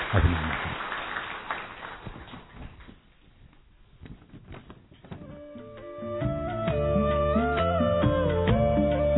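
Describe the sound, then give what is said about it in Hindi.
A burst of crowd applause, dense clapping that thins out over a few seconds, followed by steady melodic music with sustained tones that swells and continues to the end. “तो इनकी पालना आपको मिल रही है, एक बार इन सबके लिए जोरदार तालियां बजाएं।”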